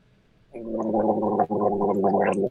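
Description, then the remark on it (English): A man gargles loudly with a mouthful of galvanized metal nails and alkaline water for about two seconds, a bubbling, throaty rattle with a steady low pitch, broken by one brief pause midway. No talking is heard. “He's gargling the nails.”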